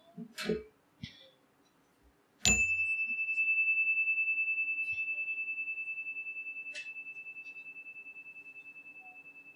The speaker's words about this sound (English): We'll now have a moment of silence. I'll ring the chime once at the beginning and again at the end of the time of silence.